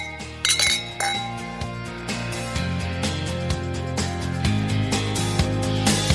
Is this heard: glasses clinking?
yes